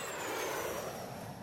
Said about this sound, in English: This is a plane. It takes people to many different places. Should I go by boat? Bus? Truck? Plane?